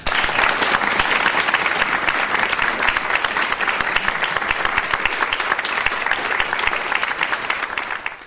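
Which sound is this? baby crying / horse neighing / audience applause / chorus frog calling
audience applause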